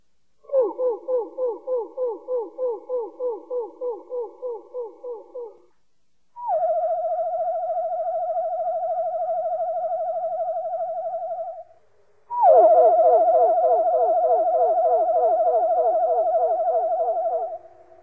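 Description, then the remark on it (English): A wood thrush song slowed way down into low, hooting tones: a fast pulsing run of notes, then two long wavering phrases where two separate voices sound together, clear and alone; the left voice box makes slow sweeps while the right makes sweeps four times as rapid. “That's the song of the wood thrush.”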